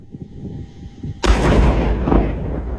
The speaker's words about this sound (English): That's what you're looking for. Crews safely triggered several explosions just like that, one along I-70. Then they cleared the slides, including one that was more than 4 feet deep.